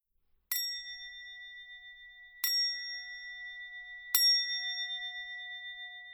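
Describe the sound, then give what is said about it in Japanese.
A temple bell is struck three times at slow, even intervals as the signal to begin zazen meditation, each strike ringing clear and bright before fading into a long, sustained hum that overlaps the next. “これから座禅の合図で鐘が3回鳴ります。”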